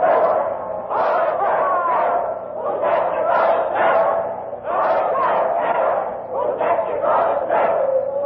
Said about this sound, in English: And now the crowd is chanting a doggerel. Poor Jack Ketch, whose neck you're going to stretch. Listen to them for a minute.